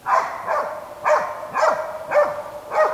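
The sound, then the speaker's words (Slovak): A hunting dog barks in a steady, insistent rhythm, about six loud barks in quick succession at roughly half-second intervals, with no one talking, during a hunting dog trial after being released on a fresh drag trail laid with a wild boar dummy. “A následne potom máme doplnkové disciplíny a tam odskúšavame odvahu, odskúšavame vytrvalosť, správanie sa po výstrele a hlasový prejav.”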